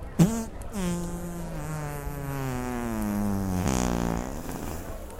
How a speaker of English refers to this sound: What's that? Oh, you farted right in my fucking mouth. Nasty. Get out of here.